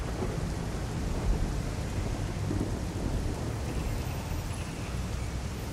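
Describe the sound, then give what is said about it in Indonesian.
Heavy rain pours steadily and without pause, a dense hiss of falling water with a deep rumbling undertone throughout, and no voices. “Namun tidak ada pertanda hujan ini akan reda.”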